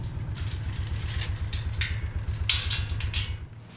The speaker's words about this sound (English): She's driving me in a golf cart over the more than 8 acres of land Virtue Cider has laid out for Gloucestershire Old Spot pigs.